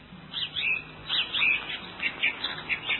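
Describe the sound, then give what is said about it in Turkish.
Several birds chirp and call in quick, repeated bursts, bright, with a steady rhythm of short tweets overlapping through the scene. No one speaks. “Kurtlar ve kuşlar sevinç çığlıkları atmaya başladılar.”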